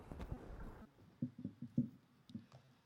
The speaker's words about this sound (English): Father, as we hear the rain coming down on the roof, we're reminded, Father, of your promises in Isaiah.